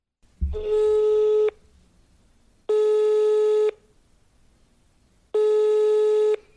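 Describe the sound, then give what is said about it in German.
A telephone ringback tone sounds three times, each buzzing ring lasting about a second with longer pauses between, clear and steady through the handset with no one speaking. “Es folgt noch ein Telefonat”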